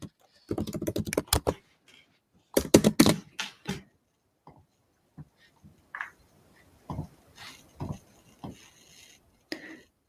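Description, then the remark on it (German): Bursts of rapid keystrokes on a computer keyboard, fairly loud, typing an Instagram message, clustering in quick flurries with short pauses between them, followed by slower, scattered individual taps. “So, und dann möchte ich nochmal eine Instagram-Nachricht verschicken und hier schreibe ich, falls du noch Fragen hast, schreib mir sehr gerne.”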